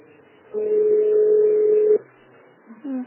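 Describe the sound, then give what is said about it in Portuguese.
A single steady telephone keypad tone, dialing option 2 in the NET Televendas phone menu, sounds for about a second and a half, clear, followed by quiet line hiss and a brief faint sound at the end. “Dois, aí olha quantas vezes eu disse que eu dei dois da mesma mensagem.”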